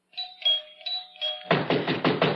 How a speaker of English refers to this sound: Finally. Why must he pound on the door?